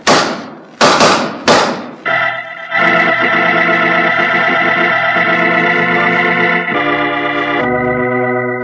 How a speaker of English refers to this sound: Following that exchange of shots, Roger Prescott died. And his gambling partner, Killer Evans, who'd been quicker at the draw, served 6 years in prison.